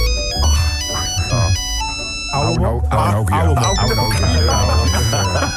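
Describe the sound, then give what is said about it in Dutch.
An old Nokia mobile phone ringtone, a farmer's old Nokia ringing, plays a bright, loud, beeping melody of quick stepped notes, with a voice talking over the tune in its second half. “Maar goed, die boer die pakt zijn oude Nokia op.”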